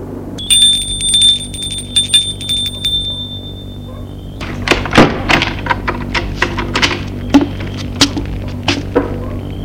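A house doorbell rings on a cold November day with a sustained, high electronic tone for about four seconds, then stops, followed by a series of sharp clacks and thumps.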